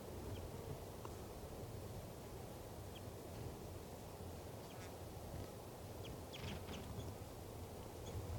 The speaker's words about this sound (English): Wild bird there, light chips. Wild. I believe there are two wild birds here. One's a male and he's perched right above the truck in the branch of a ponderosa pine.